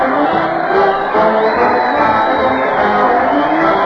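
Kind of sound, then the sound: crowd, crowd cheering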